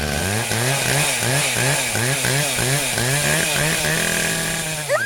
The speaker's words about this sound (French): Et là, on a entendu des bruits de tronçonneuses.